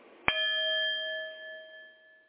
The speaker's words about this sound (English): The sound of the chime is simply a reminder to bring your mind back in focus because it will wander.